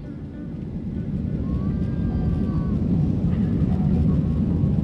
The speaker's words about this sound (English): The plane bumps and sways during takeoff. It's typical, but I still grip the armrest with white knuckles.